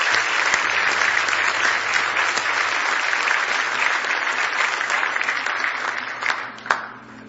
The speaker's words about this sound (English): Are you glad to be in church? Are you glad you're a Christian? Give him one more big hand clap of praise tonight if you love him.